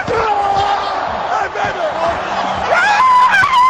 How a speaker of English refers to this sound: why are you playing a clip of a screaming child on the radio? That was not a screaming child. That was Ryan Fitzpatrick. That is known in Bills fan circles as the Fitz Scream.